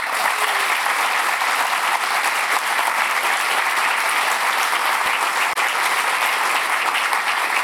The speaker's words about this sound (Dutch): Nee, maar ik zat te denken, zo'n applaus en ik heb nog niet eens iets gedaan. Ja, zo beginnen we altijd.